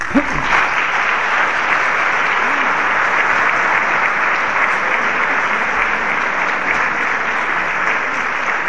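Sustained audience applause, a dense, steady wash of many hands clapping at an even loudness for several seconds with no pauses.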